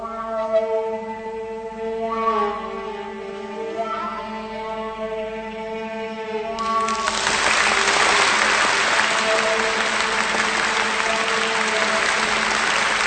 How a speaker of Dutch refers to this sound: Ik blijf niet wachten tot die mensen zijn uitgeklapt.